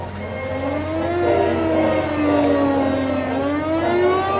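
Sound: air raid sirens wailing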